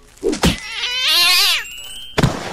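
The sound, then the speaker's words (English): A thud lands, then a cat lets out a loud, drawn-out yowl lasting about a second, rising and falling in pitch, as it hits the ground, followed by another soft thump. “They gave me a cat to put up for adoption. Took it, threw it on the ground.”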